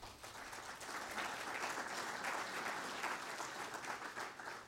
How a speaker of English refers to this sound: So please, give yourself a round of applause for what it is that you do every day when you go to work.